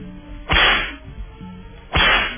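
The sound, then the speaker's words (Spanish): Two loud whip lashes crack sharply, about a second and a half apart, each with a bright snap that trails off quickly over a low, steady background hum. “hay que darle las, por supuesto, los latigazos. Démosle. Dos más.”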